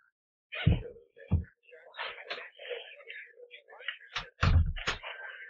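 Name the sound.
door being closed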